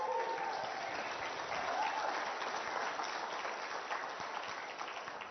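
Steady audience applause, a dense wash of many hands clapping at an even level throughout, tapering slightly toward the end, with a few faint voices mixed in.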